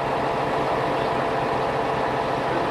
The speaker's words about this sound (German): Ein Kran hieft den Kalksteinblock auf einen Lastwagen. Und der wird jetzt heute in unser Lager transportiert und in der Folge werden dann die Knochen weiter präpariert und freigelegt.